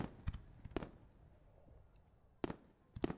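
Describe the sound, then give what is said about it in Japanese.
Summer fireworks bursting outdoors, watched by two people in yukata: several sharp booms spaced irregularly with a quiet crackling pause between them, the last two close together and loud. “こうしてあなたと二人で 浴衣で花火を楽しめるなんて、こういう夏の過ごし方っていいわね。”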